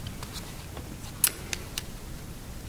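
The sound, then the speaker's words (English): Several sharp, quiet clicks at uneven intervals, like a computer mouse being pressed repeatedly, with one slightly louder click in the middle over a faint low background hum; no one speaks. “And, sorry, I'm having trouble clicking.”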